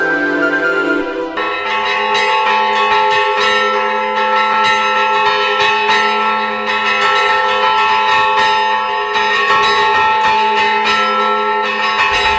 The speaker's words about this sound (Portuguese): A voz dos sinos ainda hoje é muito comum em várias cidades, principalmente no interior do Brasil. O som faz parte da paisagem desde tempos muito antigos.